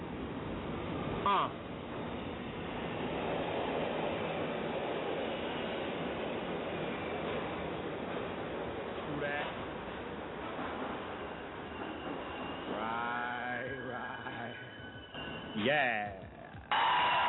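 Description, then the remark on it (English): A subway train rumbles along the rails in a steady, loud roar, with rising metallic squeals and a few clanks toward the end of the ride. “Welcome to the subway.”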